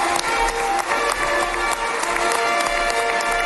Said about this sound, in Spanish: Trump recibido entre aplausos y ovaciones en Jerusalén.